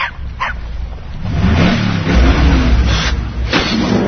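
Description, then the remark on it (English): A Camaro car engine rumbles in a yard, its pitch climbing and falling in revs, while a dog barks a few times in short sharp bursts over the roar. “Satan's Camaro in my yard. It's stalking me!”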